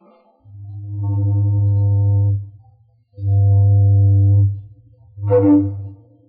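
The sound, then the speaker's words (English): An old steamboat whistle, the familiar toot heard on a radio broadcast in November 1925, sounds three loud, low, steady blasts: two long toots with a brief pause between them, then a shorter final blast. No voices are heard. “Now, getting back to that night in November 1925, if you were tuned in, you heard a mighty familiar toot on an old steamboat whistle and a mighty friendly voice talking to you, sort of like this.”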